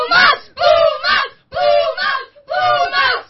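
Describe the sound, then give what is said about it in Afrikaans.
A group of primary school children shouts in loud, high-pitched bursts, cheering for the Pumas team: four sustained cheers with short pauses between them, energetic like a crowd rooting for a team. “Julle gaan hulle aan die slaap skree.”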